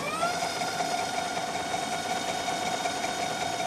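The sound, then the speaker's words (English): Electric scooter wheels rolling on cobblestones as the scooter is rolled along a street, producing a steady mechanical whir with a faint high whine that holds constant throughout, with no voices. “Here's what this machine's wheels sound like in motion.”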